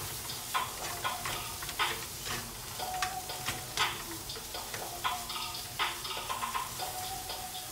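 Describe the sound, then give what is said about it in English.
Steady sizzling of mushrooms frying in a pan, a broad crackly hiss punctuated by frequent sharp pops and ticks of spattering moisture, with occasional scraping as the food is stirred. “All right, so we got the saute.”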